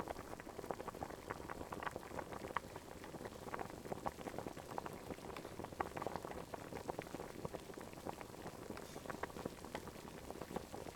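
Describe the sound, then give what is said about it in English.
Broth bubbling steadily in a pot, a dense, continuous crackle of small pops and gurgles at a constant, fairly soft level throughout, with no voices. “The broth is boiling.”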